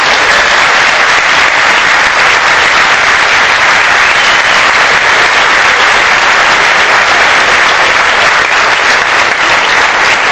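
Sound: loud audience applause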